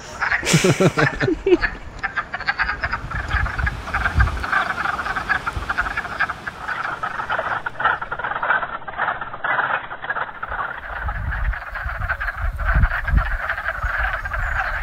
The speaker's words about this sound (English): Got a vernal pool, and I'm gonna try to sneak up on it so that I don't silence all these wood frogs that you hear in the background.